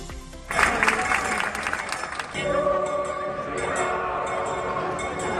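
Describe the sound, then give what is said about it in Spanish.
Dense crowd applause bursts in after a brief pause and rolls on loudly, then gives way to a sustained wash of crowd voices and singing with clapping still underneath, as thousands of pilgrims accompany the Virgin of Fuensanta, patroness of Murcia, Spain, from her sanctuary to the cathedral. “Entre aplausos, pétalos, cánticos como los de la coral, discantos y el grito de guapa y viva la Virgen de la Fuensanta, miles de romeros han acompañado a la patrona de Murcia desde su santuario hasta la catedral.”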